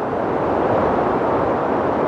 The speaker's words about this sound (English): That wind you're hearing whipped across the summit of Mount Washington, which is the highest peak in the northeastern U.S., at 120 miles per hour. Wind chill temperatures were measured at below minus 100 degrees Fahrenheit.